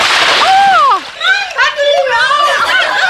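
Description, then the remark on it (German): A loud splash of water as someone tumbles in and gets their clothes soaked, its spray dying away after a second, mixed with a high squeal and followed by children's excited voices. “Meine Kleider sind ganz nass.”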